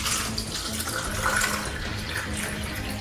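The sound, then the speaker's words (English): Water pours steadily back into a container of Kangen water, a continuous splashing, gurgling stream that stays even throughout, with no voices over it. “Okay, I'll put it back into the Kangen water over here.”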